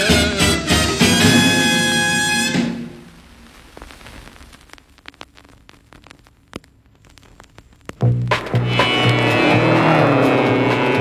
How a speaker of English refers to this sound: Now that's the mighty engine that gathers in your ears. The story of that engine is a legend through the years.